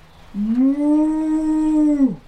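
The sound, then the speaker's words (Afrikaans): A single drawn-out cow moo in a children's puppet show, a steady, fairly high-pitched lowing tone held for nearly two seconds before sliding down and fading out, with no talking over it. “Ja, 'n koei.”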